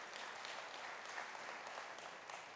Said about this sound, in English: Please do give him a round of applause.